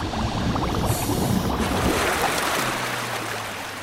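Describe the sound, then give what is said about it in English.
Water churns and splashes loudly as swimmers break through the surface after following an anchor line back to a boat, with a steady low mechanical hum rising underneath toward the end as the splashing eases. “We just surfaced.”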